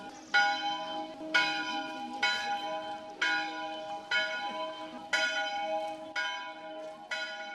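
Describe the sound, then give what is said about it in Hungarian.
A church bell in Grecsó, Hungary, tolls at 12 o'clock noon, about eight strikes at an even pace, each ringing out with a bright metallic clang and lingering hum, heard clearly with no voices. “Grecsó, 12 óra, megszólal a harang.”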